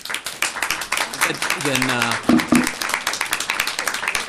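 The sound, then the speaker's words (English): Audience applause after testimony at a hearing on a Minnesota Senate bill, a steady crackle of many hands clapping, with a person's voice speaking briefly over it partway through. “That was very good testimony, but again, we don't have applause during the hearing.”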